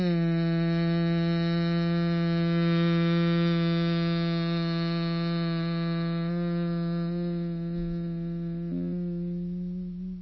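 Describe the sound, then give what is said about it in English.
As a breathing exercise, after a deep full inhale, a person hums one steady, low-pitched note for about ten seconds on a single exhaling breath. The tone stays even and fairly loud, then fades out at the end. “And not what humming means is you take a deep inhale, full breath, and then you go hum.”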